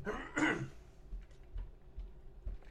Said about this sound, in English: Ooh, told you. Lisinopril cough, be gone.